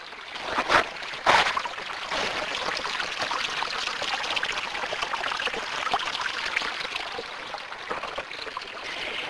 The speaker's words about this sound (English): This is a little brook that runs down the hill beside my house and across the backyard. It, too, used to be seasonal, but now it's pretty much year-round.